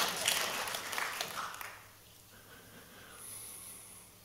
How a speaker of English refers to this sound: I'm glad he's clapping.